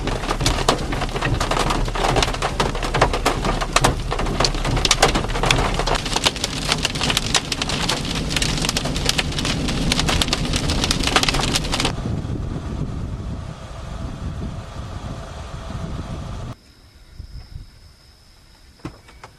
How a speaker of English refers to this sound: Here's a video from a Kansas storm. Tornado winds produced hail and lightning, and the lightning started fires.